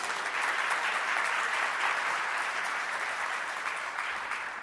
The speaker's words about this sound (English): That clapping, you're very kind.